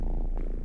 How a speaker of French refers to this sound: Alors on entend à la toute fin un petit ronronnement de chat.